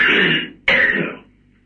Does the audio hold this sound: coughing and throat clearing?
yes